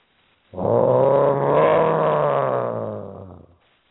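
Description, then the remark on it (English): A low, rumbling animal growl from farther back in the woods, sustained for about three seconds, steady and fairly loud, swelling slightly in the middle before fading out, with no voices present. “This was a low growl, farther back from the woods.”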